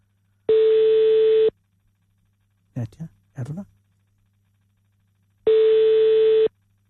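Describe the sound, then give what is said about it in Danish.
A telephone busy signal sounds twice, each a steady one-second electronic beep spaced several seconds apart, loud and clear, with a person briefly speaking in the gap between them. “Nummeret, du ringer til, er optaget.”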